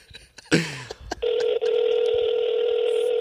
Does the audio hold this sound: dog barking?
no